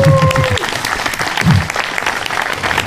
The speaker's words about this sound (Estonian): siis selles mõttes võiks veel suurem aplaus olla.